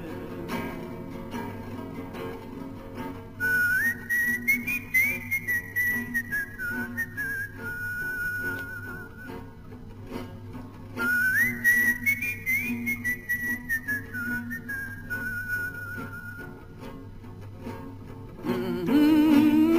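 A person whistles a slow, clear melody in two long phrases separated by a short pause, over a soft, low background hum; no one speaks.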